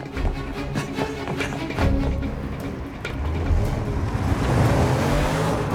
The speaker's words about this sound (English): The car drives down a cobbled ramp to a quayside. Looking down from the balustrade above, Brian sees it pull up next to a row of luxurious boats.